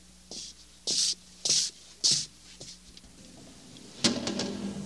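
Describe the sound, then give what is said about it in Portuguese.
A door is worked back and forth, giving a run of short, loud squeaky scrapes in steady rhythm, then a heavier clunk with a ringing rattle as it shuts. “Essa porta é muito engraçada.”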